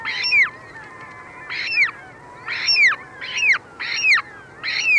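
Harsh, piercing ivory gull calls ring out six times in a steady series, each a strident downward-sliding cry, loud over a low, constant background rumble.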